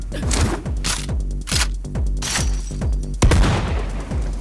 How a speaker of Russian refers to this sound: Замечены выстрелы в зоне обслуживания. Вероятно, присутствуют преступники.